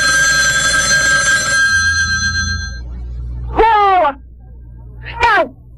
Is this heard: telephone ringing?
yes